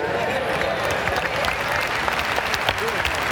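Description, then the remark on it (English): An audience claps together in a steady rhythm, the dense, continuous patter of many hands keeping time, with a murmur of voices running underneath. “Black man, clap on that second beat.”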